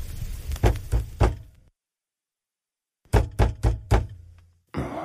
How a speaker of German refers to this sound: Wer macht denn da so einen Lärm? Hä? Da klopft doch jemand.